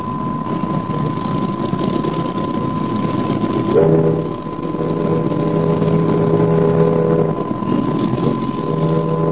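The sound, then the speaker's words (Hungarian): A steady, rumbling wash of boat engine and street noise in the Alfama by the Tagus river, broken by a long, deep ship horn blast in the middle and a second one near the end; no voices. “Szinte egyöntetű zajjá olvad az Alfámai utca lármája, és csak néha tarkítja ezt a lármát egy-egy hajókürtje vagy autó dudája.”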